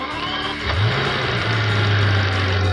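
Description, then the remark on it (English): A Continental Supersport sports car's 621-horsepower 12-cylinder engine cranks to life and revs up, its deep tone climbing and then holding steady in a loud, sustained roar with no talking. “Crank up the Continental Supersport 621 horsepower 12-cylinder engine, and it sounds more airplane than car.”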